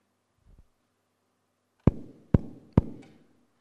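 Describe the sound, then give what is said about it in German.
Three firm knocks on a door in an even rhythm, each sharp with a short resonant ring, following a faint soft bump and otherwise quiet surroundings. “Ich klopfe an deine Tür und frage nach einer Wohnung für meinen Sohn.”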